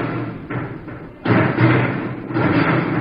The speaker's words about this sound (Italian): Ah, il rumore che sentiamo è proprio quello dei guantoni immersi nel colore e pam, prendono a pugni la tela in qualche modo.